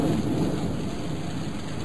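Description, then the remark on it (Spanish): Steady rain pours down continuously with a dense, hissing patter, heavy low rumble underneath suggesting a storm. No voices, just the constant wash of rainfall throughout. “Y sigue lloviendo.”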